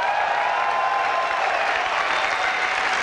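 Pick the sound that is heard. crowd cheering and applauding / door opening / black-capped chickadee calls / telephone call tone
crowd cheering and applauding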